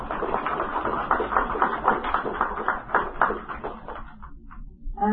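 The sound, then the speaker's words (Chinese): An audience at a Hong Kong book fair lecture claps warmly to thank the Venerable Xian Kong of the Hong Kong Buddhist Association: a dense crackle of many hands that holds steady for about four seconds, then quickly thins out to a few scattered claps and dies away. “咁我哋以首先热烈嘅掌声，多谢法师。”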